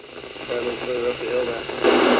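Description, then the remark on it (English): Crackly ship's radio chatter aboard the fishing boat Starlight in the Bering Sea: voices of other fishing skippers trading information about where the pollock are, coming through a thin, band-limited, static-laced channel, talking steadily, getting louder and harsher toward the end. “On the ship's radio, you can hear other skippers trading information about where the fish are and where they aren't.”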